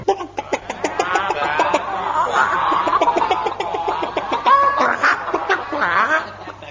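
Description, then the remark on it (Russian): A flock of chickens clucks and squawks continuously and fairly loudly, many overlapping calls rising and falling with no pause. “Расступайся, народ, куры вышли из ворот, наши куры, государыни, хохлатушки.”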